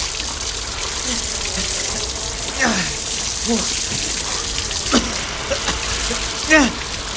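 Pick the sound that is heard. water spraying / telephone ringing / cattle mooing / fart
water spraying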